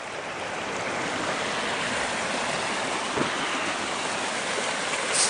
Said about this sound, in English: There's a waterfall with water.